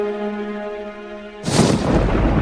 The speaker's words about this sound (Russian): За окном неистовал гром.